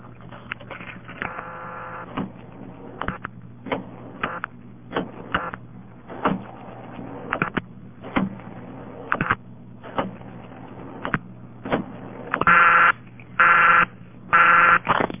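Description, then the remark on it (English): A coin payphone in Cooley City, Washington, on September 5, 1970, being dialed to the caller's own phone number: a string of short, uneven key presses and clicks over a steady hum, followed by three loud, even bursts of ringing tone. Thin, narrow telephone sound, with no talking. “Let me dial my own phone number again.”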